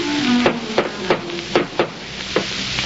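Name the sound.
knocking on a door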